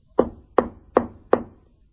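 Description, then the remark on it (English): Four firm knocks on a wooden door, evenly spaced at a steady rhythm, each a sharp thud with a brief resonant tail, clear with no talking. “Can you hear the knock?”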